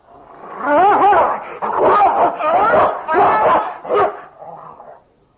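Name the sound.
dog barking and growling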